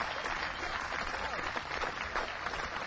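Sustained audience applause for a musical act in the evening on stage 6, a dense, steady wash of many hands clapping at once, moderately loud and even throughout without a break, with no voices rising above it.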